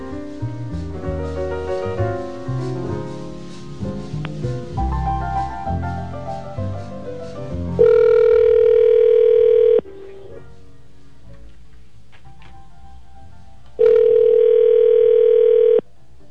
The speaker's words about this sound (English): Jingle the Elf here with Santa. Dan the Elf dialing out on the phone.